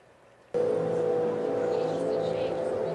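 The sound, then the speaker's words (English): Water whistles through the pipes of a sculpture arranged in a circle in front of the Science Center, cutting in abruptly after a brief hush, then holding a loud, steady droning tone with layered overtones and a breathy rush that never fades or breaks. “The water's whistling through all of the openings all the time, so the notes never begin or end.”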